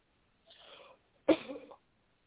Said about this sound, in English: You got to cough. You've got to cough, brother.